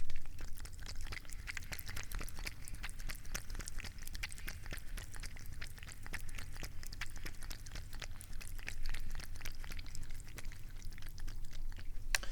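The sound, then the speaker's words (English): A cat laps water from a full water cup after a couple of drops are poured into it, a steady run of quick, soft wet clicks repeating for several seconds over a low background hum, with no talking. “Now we will hear my cat drinking.”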